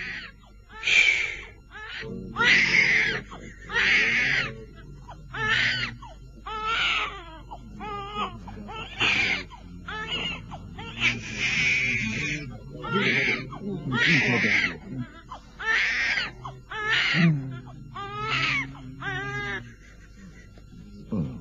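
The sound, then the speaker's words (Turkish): A young boy cries hard in repeated sobbing wails with short gasping breaths between them, continuing steadily for about twenty seconds. “Ağlama oğlum. Sus bakayım.”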